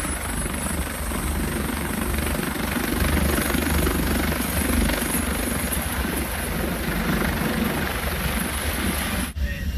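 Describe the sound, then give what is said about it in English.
A helicopter's rotor thumps loudly and steadily amid a dense roar of wind and storm noise, in a Coast Guard video of a boat in a storm, continuous for the whole stretch with a brief dip just before the end. No one speaks. “helicopter to land now because of the wind.”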